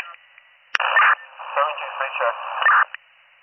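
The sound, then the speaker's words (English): During a county radio check for unit 76-17, a two-way radio transmission opens with a sharp key-up click, then a tinny, narrowband voice talks through steady static hiss for about two seconds before the signal cuts off abruptly. “76-17, there's static on, but it's still clear.”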